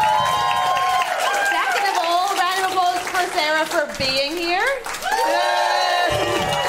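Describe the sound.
A small group cheers, whoops and claps loudly for a guest's honesty, rising and falling voices over scattered clapping, with someone speaking through the noise.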